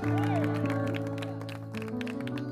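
An audience claps hands for the Lord in a steady, repeated rhythm over loud sustained music with held tones and voices. The claps are crisp but partly blended into the music.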